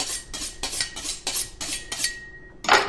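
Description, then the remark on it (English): A man draws a knife blade along a sharpening steel in a quick, steady series of about seven scraping, ringing strokes, ending with one louder, brighter swipe. No one speaks. “A man and his sharpening steel.”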